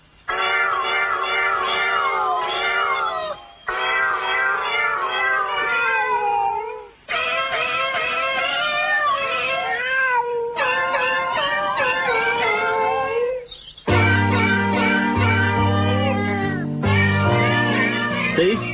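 Cat meows strung together into a continuous sung melody, a cat version of a song, loud, with brief pauses between phrases; a low sustained musical backing joins in near the end.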